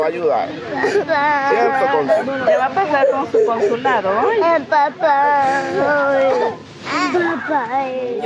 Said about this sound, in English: you might remember hearing this recording, first released by ProPublica, of children crying, calling for their parents